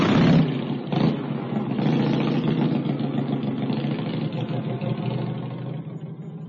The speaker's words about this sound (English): Is that a bike? No, it's a motorbike. It's a motorbike.